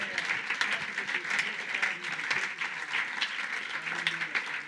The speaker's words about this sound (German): Und wow, ich will einfach Gott nochmal einen grossen Applaus geben als Church, dass wir ihm dankbar sind.